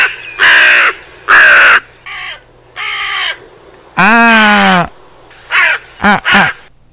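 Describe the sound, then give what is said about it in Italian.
A crow caws repeatedly, loud harsh calls in uneven bursts, including one longer drawn-out caw midway and a quick cluster of short caws at the end. “Ah, tu giustamente hai visto questa cornacchia e te la volevi impressionare, hai detto do due cazzotti a quella, così questa si riproduce con me.”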